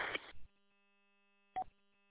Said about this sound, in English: Talk about the Roger beep, right? I didn't know it was on. And I've talked to other people before and nobody said anything. So, you know, this is the first I hear about it. Over. Yeah, it's in there when you unkey the mic.